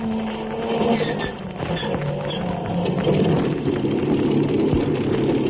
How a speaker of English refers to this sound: Jack Armstrong, in the pilot seat of the amphibian, is just starting the motors of the big plane. They're about to take off from the village of Chief Hawkface